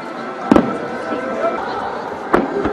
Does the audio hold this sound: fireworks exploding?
yes